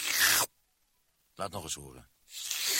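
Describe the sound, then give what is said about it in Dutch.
A new Scottex paper kitchen towel rubbed in two short, loud rustling bursts, one at the start and one at the end, with a brief spoken remark in the quiet gap between them. “Zeg, dat is typisch het geluid van een papieren spons.”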